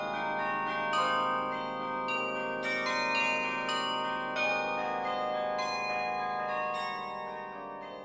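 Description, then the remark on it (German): Carillon bells in Munich ring out a slow melody over the rooftops, played from a fully mechanical keyboard that moves each bell's clapper, each struck note blooming with rich overtones and long ringing decay, layering into a sustained, resonant wash with no voices present. “Und dann erklingen über den Dächern Münchens Melodien vom Kirchenlied über klassische Werke bis hin zu Schlagern wie ….”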